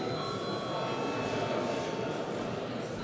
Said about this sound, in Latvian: Neviens deputāts nav pieteicies runāt par, tātad ir jautājums jāizšķir balsojot. Lūdzu zvanu.